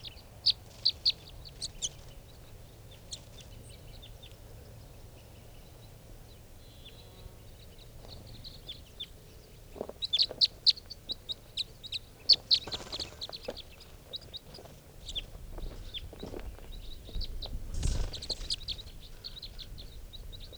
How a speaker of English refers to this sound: Calling more, now coming back. And now they're all five are down on the ground. Recording these are the wild birds. Couple more coming back, and they're coming around the truck now. There's one of the birds on the ground.